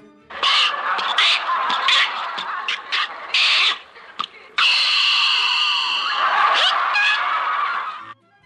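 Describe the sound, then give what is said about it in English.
Mel Blanc vocally imitates Jack Benny's old car trying to start, from golden-age radio: coughing, sputtering bursts that grow into a loud, wheezing, rattling run before cutting off. No words are spoken. “it was really Mel Blanc, the man of a thousand voices, vocalizing Jack Benny's car during radio's golden age.”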